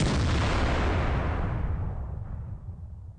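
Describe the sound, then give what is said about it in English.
A single loud cannon blast fires right at the start, then a deep, rumbling roar slowly fades over a few seconds. No voices are present. “All right, we got to put that cannon back.”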